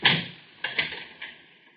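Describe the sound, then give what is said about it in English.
A key turns in a door lock: a handful of metallic clicks and clunks, spaced unevenly over a couple of seconds, each ringing out briefly, with no talking. “Wait, I locked the door.”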